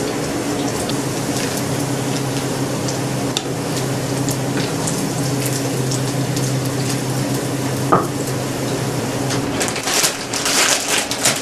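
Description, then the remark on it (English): Steady, dense sizzling of French fries frying in hot oil reused from earlier frying, with crackling pops scattered throughout and a few brief clinks of utensils, no voices. “I'm also frying some French fries.”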